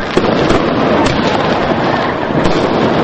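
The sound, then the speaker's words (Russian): New Year's Eve fireworks over residential courtyards in Tbilisi, Georgia: dense, continuous crackle and boom with sharp bangs popping out at intervals, a loud, echoing barrage filling the air with no pauses and no voices. “В канун Нового года тбилисские дворы на несколько минут погрузились в пороховой туман фейерверков.”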